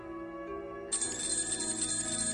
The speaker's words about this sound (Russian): Громко зазвонил будильник. От резкого звука Тимофей вздрогнул в своей кровати и сонно простонал. «Ой, что это? Перестань!» Вытянув из-под одеяла руку, он нажал на кнопку будильника и тут же спрятал руку под одеяло.